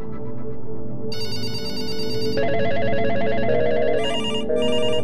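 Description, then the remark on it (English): Several telephones ring at once in the FirstEnergy power company control room as the power grid fails, their electronic trills overlapping and piling up into a loud, continuous clamor of ringing with no voices. “And they started to get phone calls.”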